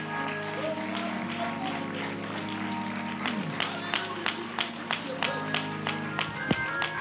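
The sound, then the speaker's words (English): A church audience claps their hands together in a steady, dense burst of applause that carries on throughout, with sustained musical tones and voices humming underneath. “Clap your hands one more time before you're seated.”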